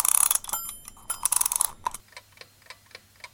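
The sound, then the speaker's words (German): An alarm clock is wound with a rapid, bright ratcheting burst of clicks for about two seconds, then settles into a steady, quieter ticking. No one speaks. “ich werde mal hier diesen Wecker aufziehen, wie immer.”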